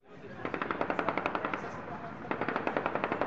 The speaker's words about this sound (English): A celebratory gunfire rang out across Gaza within minutes of the bus in Tel Aviv being bombed.